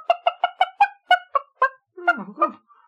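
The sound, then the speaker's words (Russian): A white hen with a golden comb cackles loudly, a quick even run of about eight sharp clucks followed by two or three rougher, drawn-out squawks. “И вместе с ним вылетела на свободу белая курочка с золотым гребешком. Она увидела в окошке короля и закричала.”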